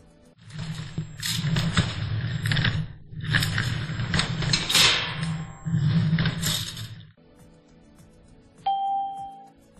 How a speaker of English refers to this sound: They're moving furniture.